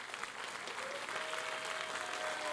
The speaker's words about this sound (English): And we appreciate everything you've done to protect our freedom. Will you please give all of our veterans a big clap offering?